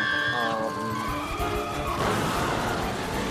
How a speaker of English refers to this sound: smashes into a giant anvil near a shopping center.